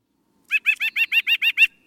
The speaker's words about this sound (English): White-breasted nuthatch giving its song. Yeah, girl! We have two kinds of nuthatches. The white-breasted sounds like a cranky toddler.